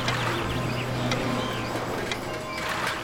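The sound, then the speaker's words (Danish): A steady traffic rumble with a low engine-like hum runs throughout, while a few faint bird chirps flicker above the constant drone. “Fokuser på lyden af trafik.”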